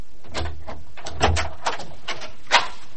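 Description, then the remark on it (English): A series of short clicks and clunks, like a lock turning and a latch releasing, then a door opening with a couple of sharper knocks. No voices. “You don't usually lock the door.”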